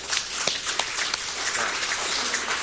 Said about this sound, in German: Also vielen Dank. Ich denke, wir klatschen sonst nie, aber einmal können wir heute mal klatschen. Ja?